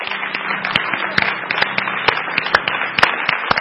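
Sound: audience applauding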